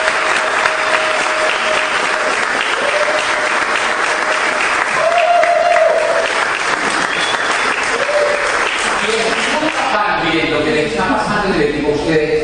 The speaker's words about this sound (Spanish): Vamos a dar un aplauso.